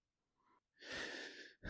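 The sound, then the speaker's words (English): Heavy, angry breathing of a person red in the face with a racing heart: a brief soft intake, then a long, forceful rushing exhale, with the next breath starting right after. No one speaks. “Dorothy was breathing heavily.”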